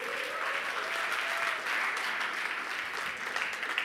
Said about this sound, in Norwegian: Men før vi røper det, så skal vi få opp døperen Johannes, og vi skal få opp Jesus, altså de som spiller dem. Vi gir dem en applaus.